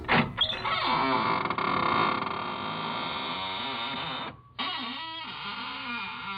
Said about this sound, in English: Good evening, friends of the Inner Sanctum. This is Raymond, your host at the squeaking door. Come in, won't you?